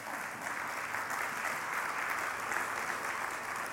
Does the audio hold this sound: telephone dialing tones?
no